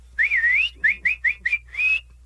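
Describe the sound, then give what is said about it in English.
A loud mouth whistle: one long warbling note, then four short sharp chirps and a final sustained tone, like a sports-crowd whistle, clear with no talking. “I'm clapping, cheering, and I start whistling, like you do at a baseball game. A super loud one.”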